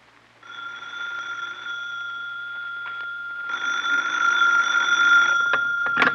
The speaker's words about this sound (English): I was annoyed when my phone rang at 10 in the evening.